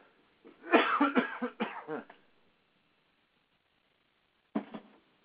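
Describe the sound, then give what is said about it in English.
A burst of harsh, wet coughing and throat clearing, several rapid hacks over about a second and a half, then a pause and one more short cough. “I let go, and I got coughed, and I'm pushing up all this stuff.”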